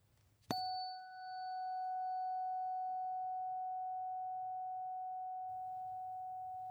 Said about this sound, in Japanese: この音は心を解放してくれてポジティブな気持ちにさせてくれる周波数。この音を心が望むならこの音叉を選んでください。